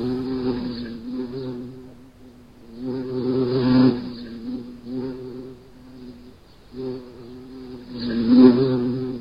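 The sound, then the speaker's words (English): A bee buzzes, its drone rising and falling in loudness as it circles and drifts away, swelling twice to a louder hum. “You hear the sound of that bee flying around you again.”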